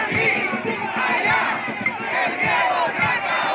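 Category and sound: crowd, protesters shouting slogans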